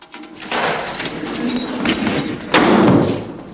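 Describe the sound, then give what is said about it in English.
A heavy jail cell door of a holding cell full of men, opened by police officers, grinds and rattles open in one long, scraping slide, ending with a louder metallic clank. No one speaks. “The cops lead Kersey towards a cell full of men and open the door.”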